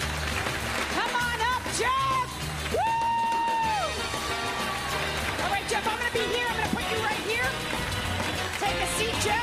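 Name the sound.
audience applause and cheering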